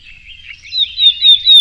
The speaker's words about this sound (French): Il y a des alertes. Là, c'est une alerte. En fait, l'oiseau est dérangé. On en rentre dans son territoire. Voilà ce qu'il fait.